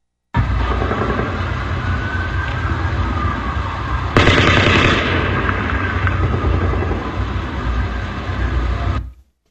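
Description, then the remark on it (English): A distant burst of live gunfire, dense crackling reports running almost continuously, with a sudden louder, sharper volley partway through before it fades back to steady rattling. No voices are heard. “And point of fact, most all of the live fire that can be heard in all the recordings that I've seen, the digital recordings, audio and video, smartphones, I don't hear any helicopter noise.”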